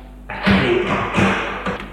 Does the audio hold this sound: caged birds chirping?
no